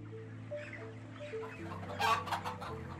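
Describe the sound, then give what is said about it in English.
Chickens cluck and murmur together indoors in a chicken shed at Lower Farm in Derbyshire, England, over a steady low mechanical hum, with a louder burst of clucking near the end. “It's run by David Speller, who's pioneered the use of CCTV and CO2 monitors in chicken sheds.”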